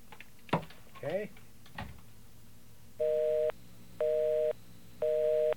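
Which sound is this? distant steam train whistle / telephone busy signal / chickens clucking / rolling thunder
telephone busy signal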